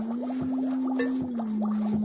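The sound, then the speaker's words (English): Four sharp, irregularly spaced taps on a glass jar ring out over a steady low electronic hum and a faster pulsing, warbling tone from a running encephalograph. No one speaks. “I tap on the glass jar.”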